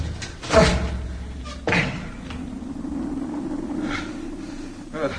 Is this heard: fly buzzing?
no